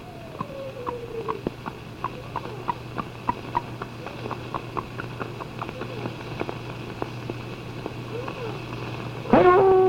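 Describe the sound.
A voice imitates a horse with a mule-like, braying whinny, over a steady run of sharp clip-clop clicks like hooves. A louder, wavering cry comes in at the very end.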